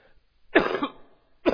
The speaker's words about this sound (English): I wish I could turn this off when I'm coughing. I'm so sorry.